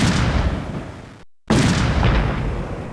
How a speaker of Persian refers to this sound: اما با صدای انفجار دوم نیروهای امنیتی به سوی مجلس عمومی شتافتند و تمامی نمایندگان و خبرنگاران را جایی که نسبتاً مسئول بود انتقال دادند.